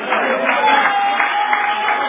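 A crowd applauds with a steady, dense patter of clapping that holds an even level for about two seconds, with a faint murmur of voices mixed in.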